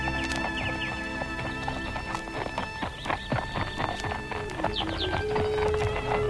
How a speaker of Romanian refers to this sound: Ia stați! Stați! Opriți armăsarii!